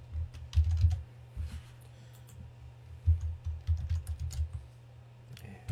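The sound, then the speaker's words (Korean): Rapid typing on a computer keyboard, with quick clusters of soft key clicks, pausing briefly and then resuming. The sound is moderately quiet, with no voices. “그래서 타자나 이거 치는 게 훨씬 더 편할 것 같다 이 생각이 듭니다.”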